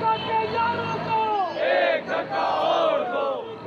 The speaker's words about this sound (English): Protesters in Karachi, the financial capital of Pakistan, held a rally in front of Karachi Press Club to call for an end to Western interference in Muslim world and to show support for the revolutions in Arab world.